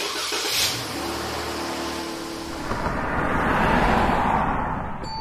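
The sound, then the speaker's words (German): A car engine rumbles and revs as a car is brought round, then the vehicle pulls away with a rising, rushing drive noise, fairly loud, with no voices. “Gut, dann fahre ich schon mal einen Wagen vor.”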